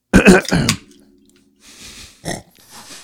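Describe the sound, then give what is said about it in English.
A loud cough bursts out at the start, followed by a low rumbling hum and then a few quieter, breathy throat-clearing rasps. “You don't have to try to cough over it.”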